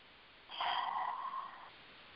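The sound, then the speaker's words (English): A single deep, breathy rush of air lasting just over a second, fairly loud against a quiet background, with no talking: a person breathing deeply in and out. “Deep breathing in and out, and I want everybody to just pay attention to where they feel stuck in their bodies and breathe into that spot.”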